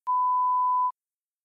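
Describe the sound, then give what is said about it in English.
A single steady electronic beep, a clean pure tone lasting just under a second, signalling the time to answer a listening-test question, then cutting off into silence. “When you hear a beep,”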